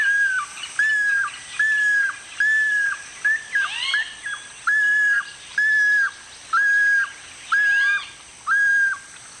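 Ani calls: a series of about nine clear, whistled notes repeated at a steady pace, each slurring upward then holding, with a few fainter chirps in between. No one speaks.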